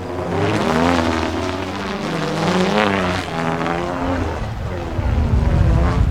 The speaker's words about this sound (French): Parce qu'on a quand même, on voyage en camion, donc il y a le bruit du camion